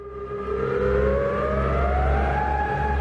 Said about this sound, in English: When the siren goes off, people in Ording have roughly 40 minutes before the lahar hits.